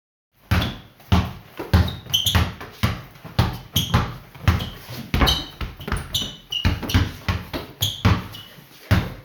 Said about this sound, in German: Dann wird Basketball gespielt.